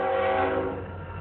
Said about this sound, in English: Here's the train. Two. Should be three. Beautiful. Oh, we got an extra one. Nice.